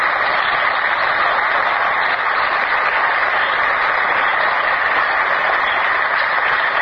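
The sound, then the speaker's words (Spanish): An audience claps steadily throughout, a dense, even wash of many hands applauding with no pauses or voices standing out. “Un aplauso.”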